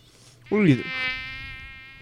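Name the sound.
mosquito buzzing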